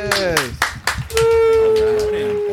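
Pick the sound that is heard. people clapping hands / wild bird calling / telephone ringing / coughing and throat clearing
people clapping hands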